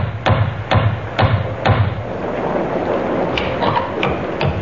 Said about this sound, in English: and then knocked on the door of Webley's Inn.